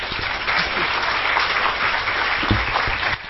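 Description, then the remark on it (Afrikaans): Sustained applause from an audience, a dense, even wash of many hands clapping steadily throughout with no one speaking, fairly loud. “vir u vra na die applous dan om vir die vee van hierdie fees, maar van vele feeste, 'n bestudeerder van die lewe, 'n vriendin, 'n mentor en ook iemand wat as ander mense jou dalk hartseer of seer maak, sê ons leef hulle dood, 'n reuse applous te gee.”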